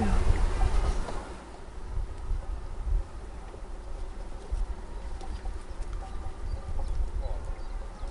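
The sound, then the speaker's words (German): A honeybee colony buzzes at an open hive, a dense, steady droning hum of many bees heard up close, louder at first and then continuing evenly throughout. “Wie viele Bienen sind so in einem Volk? Das hier werden vielleicht so um die 60.000 sein.”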